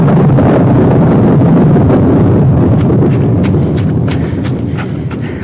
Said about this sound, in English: Too dark to see. What's that? Horse. One of the cavalry horses.